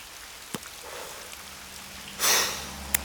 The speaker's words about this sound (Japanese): 嫌な雨だな。